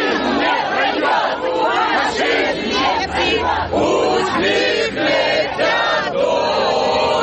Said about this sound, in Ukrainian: В цей час патріотично налаштовані активісти та учасники полку перемоги влаштували своєрідне співоче-лазунгове змагання.